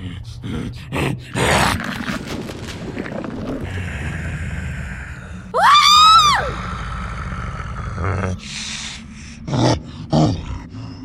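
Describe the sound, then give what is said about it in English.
A person growls like a werewolf, rough, in several short snarling bursts, with one drawn-out howling cry rising and falling midway through. “You growl? Of course I growl. I'm a werewolf.”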